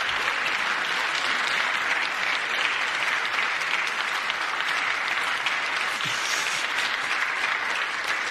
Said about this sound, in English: Those are Democrats applauding the only time that they ever applauded during the entire speech.